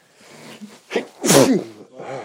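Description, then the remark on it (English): A single loud sneeze with a sharp explosive burst, preceded by a brief sharp inhale and followed by some faint voiced murmuring. “Bless you.”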